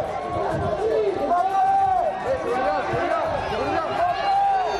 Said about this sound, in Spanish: Bueno, no quiero gritarte aquí en antena, pero quiero decirte que el grito es el gran protagonista de todo lo que tiene que ver con el partido mañana entre el Madrid y el PSG. Así gritaba hoy la ciudad de Madrid.